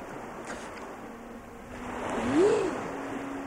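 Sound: ocean waves and surf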